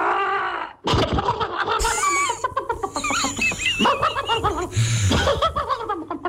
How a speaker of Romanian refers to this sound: Ce doriți să ascultăm? Păi, prima înregistrare cu găina care tușește, de la acest ascultător, nu?